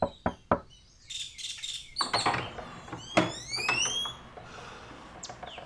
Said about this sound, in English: Early the next morning, there's a rap on the front door.